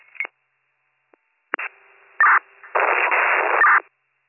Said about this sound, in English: That was all static, not sure who was responding.